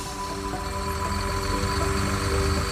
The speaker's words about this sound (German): Abfahrt. Man hört, wie der Bus beschleunigt. Wie der Motor, genauer gesagt der Verbrennungsmotor, den Bus antreibt.